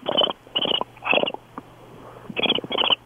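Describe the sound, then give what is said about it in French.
A voice imitates a cricket chirping: five raspy, buzzy bursts, three in a quick rhythm, then a pause and two more. A faint low hum runs underneath, with no talking. “moi, je fais le cricket, ça souligne les malaises”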